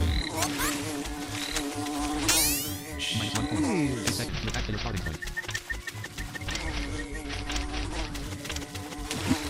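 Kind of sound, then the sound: insect, wasp buzzing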